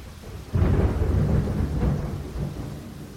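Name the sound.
thunder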